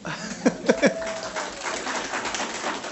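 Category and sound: crowd, audience applause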